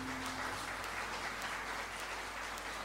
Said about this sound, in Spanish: Bueno, un aplauso también para mis amigos que me acompañan desde hace mucho tiempo.